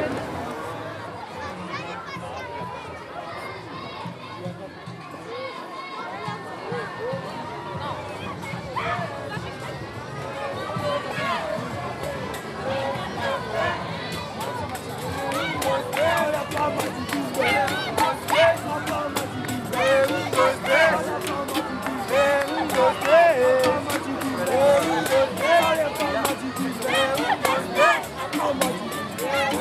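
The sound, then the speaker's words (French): Dense crowd bustle at the Parade des Lumières, a festival parade with lights everywhere and the whole neighbourhood out: many overlapping voices form a steady hubbub that swells louder in the second half, with occasional higher shouts and children's voices cutting through. “Direct de la parade des Lumières, c'est très enchanté, il y a des gens partout, tout le quartier est là.”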